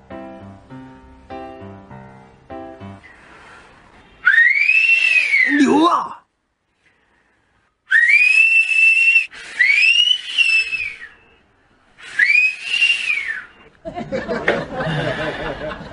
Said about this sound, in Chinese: 想当年我一个口哨吸引万千少女，偏偏就吸引了你妈。